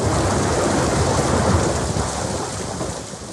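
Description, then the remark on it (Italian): Steady heavy thunderstorm rain pours down in the evening over the Piazza Grande in Locarno in a dense, hissing wash, with low rumbling thunder rolling underneath, loud throughout and easing slightly toward the end. “Gleich nach der Schlusszeremonie zum 75. Jubiläum des Filmfestivals begann es zu regnen.”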